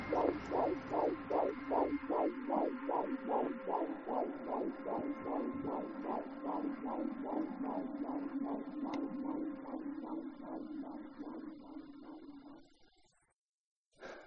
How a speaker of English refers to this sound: The silence, which had been deafening for so long, was about to end with the sound of a heartbeat.